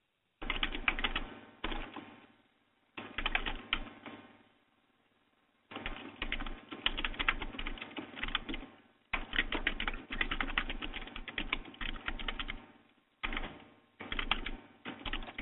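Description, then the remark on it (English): Rapid, dense clatter of keys on a computer keyboard as people type furiously, in fast bursts with a few short pauses between runs. Fairly loud, with no voices. “That people are typing furiously”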